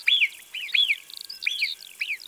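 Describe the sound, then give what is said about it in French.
Marmot alarm whistles from up in an area of rocks and scree: a rapid run of about five sharp, high-pitched calls, each arching up then sliding down, repeated at a fairly steady rhythm with no voices. “on entend des marmottes qui sifflent là-haut, dans une zone de rochers, d'éboulis.”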